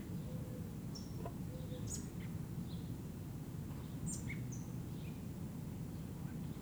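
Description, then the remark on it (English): A begging robin chick, up in an oak tree about 6 meters high at the southeast corner of LSB, recorded August 1, 1978 at 6:15 p.m., gives scattered, thin, high-pitched chirps and short whistles, irregularly spaced and fairly faint over a steady low rumbling background noise. “I think it's the chick that's doing all those sounds, but it's difficult to see.”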